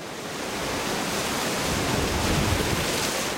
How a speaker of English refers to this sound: October 19th. Winds have begun gusting to 60 miles an hour.